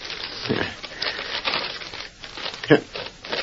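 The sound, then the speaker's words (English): Paper rustles and crinkles as an envelope said to hold a confession is ripped open, with a sharp tearing snap near the end, and a faint voice murmurs in the background. “Let's get that envelope.”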